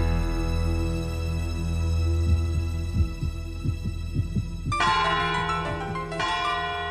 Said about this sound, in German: Hört ihr das? Was denn? Na, die Turmuhr. Es ist 12 Uhr.